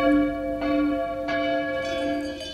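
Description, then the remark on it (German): Church bells ring steadily with rich, sustained overlapping tones, new strikes arriving roughly every half second to second over a continuous resonant hum, fairly loud and without any voices. “Wie zum Beispiel die hier. Kirchenglocken.”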